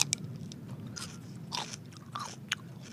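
Crisp crunching bites of food, several sharp crackly bursts in quick succession as something is bitten and chewed, with no talking.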